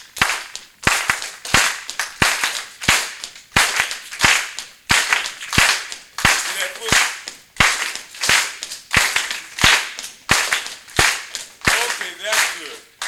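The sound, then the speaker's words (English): Sharp, steady hand claps repeat in a brisk rhythm, interleaved with duller offbeat thumps like a stamping foot, loud, with faint voices now and then underneath. “they have a different way of hand clapping, but still, in time and rhythm and using the foot still as an offbeat, we'll clap like this on some songs.”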